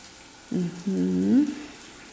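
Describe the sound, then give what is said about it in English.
Steady hissing spray of running shower water fills the background, with a brief voiced sound from a person rising over it midway before the water continues alone. “Anyway, like I was saying, it's common, so, you know, don't get too judgy about, you know, how much time I spend in the shower.”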